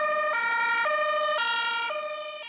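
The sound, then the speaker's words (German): An ambulance siren blares in a two-tone pattern, switching between a high and a low pitch about every half second. It is loud and steady, with no voices. “Als das Kind in den Rettungswagen geschoben wurde, wollte die Mutter nicht mitfahren.”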